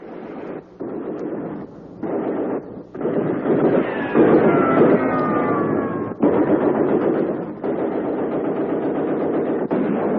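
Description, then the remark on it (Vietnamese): Rapid gunfire rattles out from inside a coconut grove in dense, sustained bursts separated by brief pauses, loud, with a rumbling, noisy texture throughout and no voices. “Bỗng từ trong rừng dừa, đạn nổ như pháo rang.”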